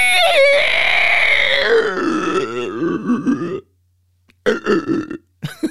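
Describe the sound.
A voice imitates the sound an unoiled shower door in a house makes as it is opened: a long, strained, warbling creaking groan sliding downward for about three seconds, followed by a pause and a few shorter rasping bursts.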